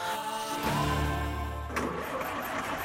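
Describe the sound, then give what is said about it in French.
A car engine cranks over and over without catching, a labored, sluggish churning from a weak battery, fairly loud, with no voices. “Je ne suis pas garagiste, mais j'ai l'impression que ta voiture a un petit problème de batterie.”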